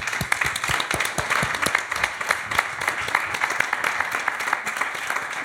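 An audience applauds steadily, many overlapping claps forming a dense, even wash of sound that holds at a fairly loud level throughout, with no voices standing out.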